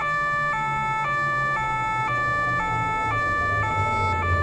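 A police car siren blares as the car arrives, in a steady two-tone pattern, switching between high and low pitches about twice a second, loud over a low engine rumble, with no voices.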